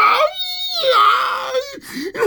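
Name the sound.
newborn baby crying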